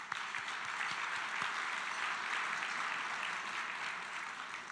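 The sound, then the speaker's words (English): A large crowd of over 400 attendees at a Goleta Chamber of Commerce business event, held in partnership with the City of Goleta, applauds steadily, a dense wash of many hands clapping at an even loudness for several seconds with no voices on top. “Let's give you all a round of applause for being here.”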